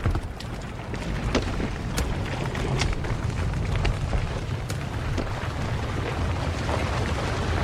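A large old building is detonated with a red button and explodes and collapses: a heavy, steady low rumble roars throughout, scattered with sharp crackles and clattering debris, with no voices present.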